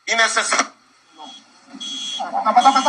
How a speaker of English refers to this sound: Maduro's speech is interrupted by an explosion. Then sirens sound and hundreds of troops can be seen running for cover.